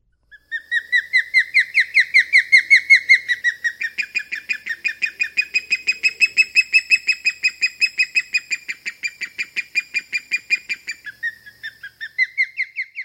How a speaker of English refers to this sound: If you guessed an osprey, you were right. Sometimes mistaken for bald eagles, adult osprey differ from our national bird in having white under their wings and dark marks on their head and tail.